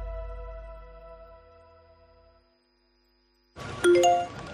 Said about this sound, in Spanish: Notificación Securitas Direct. Persona detectada en el jardín.